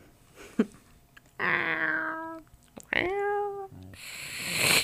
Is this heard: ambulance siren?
no